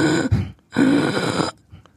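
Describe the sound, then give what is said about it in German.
A person imitates a child with croup (pseudocroup): loud, harsh honking sounds like a strained, whistling inspiratory stridor and a barking cough like a seal or a dog, in two main bursts with a brief faint one after. “Pseudokrupp, der ein oder andere kennt, dieses komische Geräusch beim Einatmen, dieser bellende Husten”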